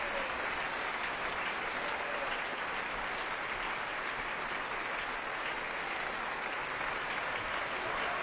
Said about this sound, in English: Being warmly applauded by the Opera Rara Chorus, also making its proms debut, their course master Madeline Venner.